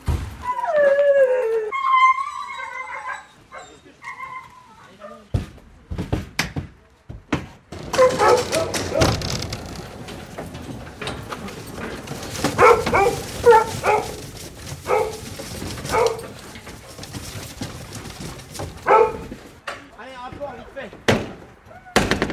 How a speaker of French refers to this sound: Les chiens qui s'impatientent, qui sont dans le camion.